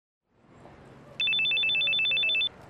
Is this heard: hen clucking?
no